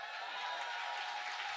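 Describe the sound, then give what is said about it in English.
An audience applauds in a steady, dense wash of clapping that holds at an even level throughout, with no single claps standing out and no talking on top. “You can do better than that.”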